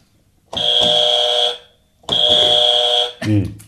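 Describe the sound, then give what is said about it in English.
A game buzzer, clicked by hand during an alphabet game, sounds twice, each a loud, harsh electronic blare lasting about a second with a short pause between, and a voice starts speaking right after the second buzz. “So I click the buzzer.”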